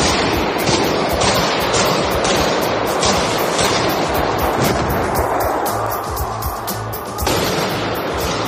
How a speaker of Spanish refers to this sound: En imágenes difundidas por redes sociales, vemos al menos a tres atacantes disparar con fusiles de asalto contra gente corriendo, tirándose al suelo por el interior del edificio.